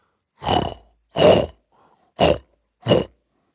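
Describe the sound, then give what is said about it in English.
Four heavy, rasping demonic breaths, loud and harsh with a growling, snorting edge like from the flared nostrils of a bull, come in a slow uneven rhythm with short pauses between them and no talking. “As he rises to check on them, he hears demonic breaths, like from the flared nostrils of a bull.”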